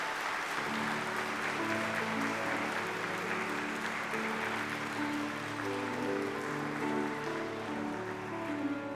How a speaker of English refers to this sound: Boy, let's give them a nice hand. Round of applause.